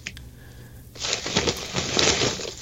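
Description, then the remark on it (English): After a near-silent second, loud crinkling and rustling of an H-E-B grocery store shopping bag printed with a big picture of boots starts, with irregular crackles and shuffles as hands dig around inside it among glass bottles. No one speaks. “They literally have, it's a big old picture of boots on this shopping bag. What do I got in here?”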